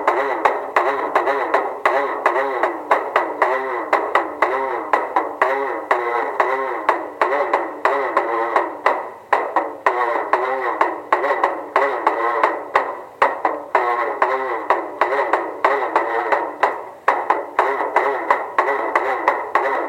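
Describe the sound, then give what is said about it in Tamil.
Recorded traditional Devarattam folk dance music plays loudly and without pause: a wavering, reedy melody weaves over rapid, steady drum strokes for the whole stretch, with no voices. “இப்போ அந்த மியூசிக் கேட்கலாமா?”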